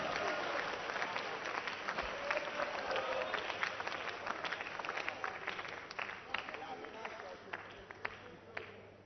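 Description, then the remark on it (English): An audience claps together in a steady, dense patter that carries on for the whole stretch, fairly loud, with faint voices mixed in beneath the applause. “You see, some people are not clapping.”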